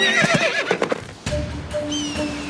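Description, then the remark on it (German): A horse named Kleiner Donner, urged forward on a ride up a narrow path between rocks, whinnies loudly with a wavering, high-pitched neigh in the first second, followed by rustling and a few faint steady tones. “Wenn wir da lang reiten, kommen wir direkt zum 6. Feuer.”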